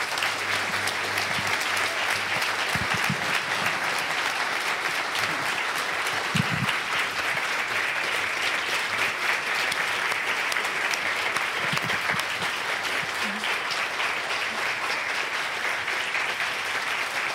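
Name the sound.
audience applause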